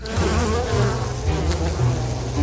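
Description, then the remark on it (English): A dense, agitated colony of angry bees buzzes loudly and continuously, many overlapping drones wavering in pitch without pause. “tend a colony of angry bees.”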